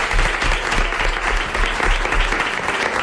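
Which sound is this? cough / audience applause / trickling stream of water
audience applause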